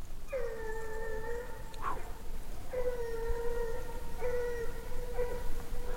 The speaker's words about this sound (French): Là, le chien, il est fort, hein, du coup. Maintenant, est-ce que tu entends autre chose que le chien?